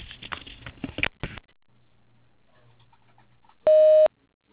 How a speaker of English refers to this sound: I'm either on the phone or away from my desk. If you would like to leave a message, do so after the beep.